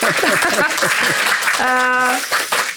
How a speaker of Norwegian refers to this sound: Jeg synes Tom fortjener en skikkelig applaus.